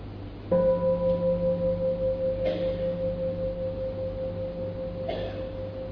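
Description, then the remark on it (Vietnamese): A single bell is struck once and rings on with a steady, mid-pitched tone that wavers gently as it slowly fades, over a low background hum with two brief soft noises. “Bây giờ mà quý vị nghe một tiếng chuông, và chúng ta mở giác quan tai ra để nghe, ngoài tiếng chuông ra thì còn có tiếng gì khác nữa không?”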